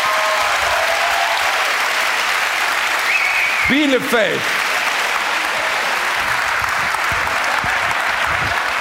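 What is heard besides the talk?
audience clapping hands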